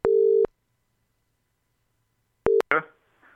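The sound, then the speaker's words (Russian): A steady single-pitch telephone ringing tone sounds once while a call is being placed to reach a person, followed by a long silence; a second tone starts but cuts off abruptly with a click as a voice answers on the line. “Пытаемся мы дозвониться до человека”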